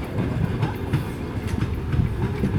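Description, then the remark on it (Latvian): A passenger train rumbles past at Skrunda station in Latvia, its wheels clattering in a steady rhythmic clickety-clack over a continuous low roar, with no voices heard. “Arī šajā rītā stacijā vilcienu gaida vairāk turisti no Beļģijas”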